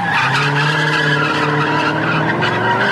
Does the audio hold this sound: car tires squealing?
yes